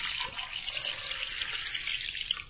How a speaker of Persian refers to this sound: بررسی ها نشون داده حجم بسیاری از آب مصرفی در خانه ها، در آشپزخانه و حمام هدر میره. باز بودن مداوم شیر آب و استفاده از شوینده های آلاینده، خرابی لوازمالات بهداشتی، همه با همه در هدر رفتن بخش زیادی از آب نقش اساسی دارن